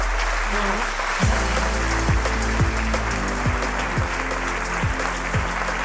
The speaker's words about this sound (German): Ich lauf gleich rot an. So früh wie ihr hat noch keine Gruppe angefangen zu klatschen, noch keine Stadt.